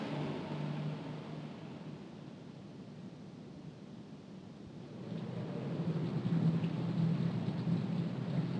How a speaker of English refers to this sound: It's just the wind. Did it wake you? Listen to that rain.